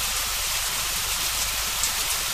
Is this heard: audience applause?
no